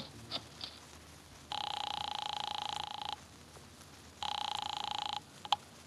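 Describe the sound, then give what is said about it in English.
A few quick clicks as an office phone is dialed to call Wolf, then two long buzzing rings from the telephone with a steady pulsing trill and a pause between them, followed by a sharp click. “I drove down to the document research laboratory on Vanderbilt and got such a shock that I grabbed the office phone and dialed Wolf at once.”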